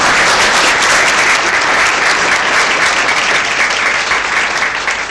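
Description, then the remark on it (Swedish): An audience claps steadily for about five seconds for Arne Tammer as he is welcomed forward, a dense, loud wash of many hands with no break or swell, ending with a slight fade. “Arne, välkommen fram så får du ännu en applåd.”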